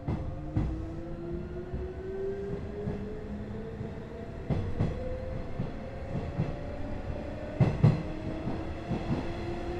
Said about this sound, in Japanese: 天神行き急行です。扉が閉まります。ご注意ください。